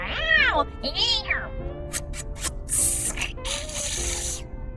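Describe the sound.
A person imitates a cat with two drawn-out, whiny meows, followed by breathy hissing, spitting bursts, like a mock catfight, over a steady low background hum.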